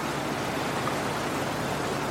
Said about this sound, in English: Well, I mean, you can hear. I mean, the river's quite full.